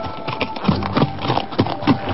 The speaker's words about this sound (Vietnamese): Bỗng nghe tiếng gió ngựa dồn dập, trên đường cái một người phi ngựa chạy như bay tới.